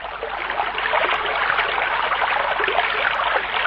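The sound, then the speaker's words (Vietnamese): A babbling stream flows steadily, its dense, bubbling gurgle holding an even level throughout, continuous with no voices. “Ơ mà hình như anh nghe có tiếng suối róc rách đâu đây nè.”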